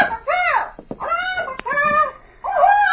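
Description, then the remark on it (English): A pet bird named Skipper squawks loudly, letting out about four harsh, honking calls in quick succession with brief gaps between them. “Oh, that's quite a bird you have, Captain.”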